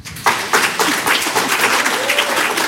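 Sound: audience applause and clapping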